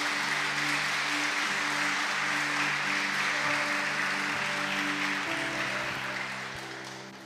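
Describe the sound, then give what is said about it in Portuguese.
An audience claps and applauds loudly and steadily for several seconds for the name of Jesus after a Bible reading at a night service, a dense crackle of many hands with a sustained organ or keyboard tone underneath, fading slightly at the end. “Você pode dar um beijo na sua Bíblia e aplaudir bem forte o nome de Jesus nessa noite.”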